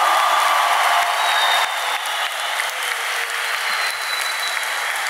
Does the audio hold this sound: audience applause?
yes